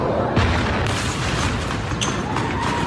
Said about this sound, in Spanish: Fueron las explosiones que se escucharon aquí en Jerusalén. No hubo heridos ni víctimas, pero sí que se registró caída de metralla.